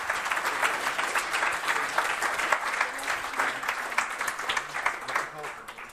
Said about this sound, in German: Ja, danke schön auf jeden Fall für eure Eindrücke und damit noch Applaus für unsere zweite Gruppe zum BioHack.